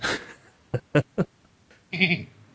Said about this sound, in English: I wish they'd get that damn sheep out of here.